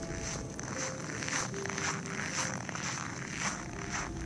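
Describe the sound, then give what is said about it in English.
Rustling and zipping as cross-country ski gear is fastened, boots clicked in and balaclava cinched, on a sunny day at minus 25 degrees, with short scratchy bursts repeating in a steady rhythm about twice a second. No one speaks. “Clicking in my boots and cinching up my balaclava, my lobster mitts locked onto my poles”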